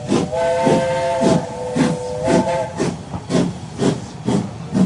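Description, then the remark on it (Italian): A steam locomotive chuffs in a steady rhythm of loud hissing puffs while a long, harmonic steam whistle blows over the first three seconds, powerful, as the train pulls out from under the station canopy. “La macchina sbuffa, fischia forte e ansante si porta fuori dalla tettoia.”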